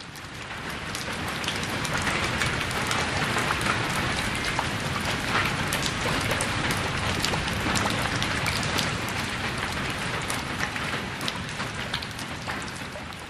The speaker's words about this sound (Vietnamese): Mưa rào trên nóc rạp chợ, trời mờ sáng. Sau khi dứt cơn mưa, chợ nhóm một chút rồi tàn.